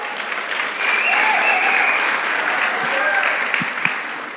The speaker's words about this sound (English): Give her a big clap. Here she comes.